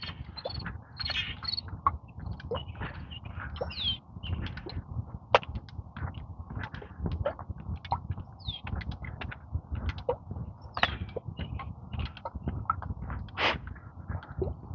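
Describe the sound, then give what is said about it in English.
A busy chorus of grackle calls, mostly boat-tailed with some common grackles: sharp clicks, rasps and squeaky whistles tumbling over one another nonstop, above a steady low outdoor rumble. “If you can hear all these crackles.”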